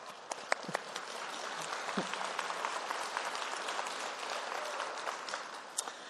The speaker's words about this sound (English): I agree. That is so worth clapping for.